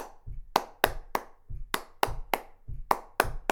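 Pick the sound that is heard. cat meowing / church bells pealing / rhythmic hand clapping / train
rhythmic hand clapping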